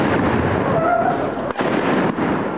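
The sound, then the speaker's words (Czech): Loud, dense gunfire crackles without pause from all sides, a thick wall of overlapping shots with one brief dip midway and a faint whining tone early on. “Na sve strane puca.”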